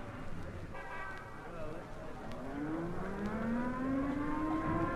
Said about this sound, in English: There goes the alert siren. Now, can't those civil defense guys sound that siren some other time? Here it is in the middle of the lunch hour, and those guys have to test the equipment now.